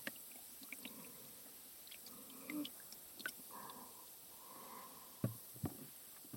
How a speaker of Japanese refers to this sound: シュワシュワと音を聞きながら、温かいお湯でのマッサージ癒されますよね。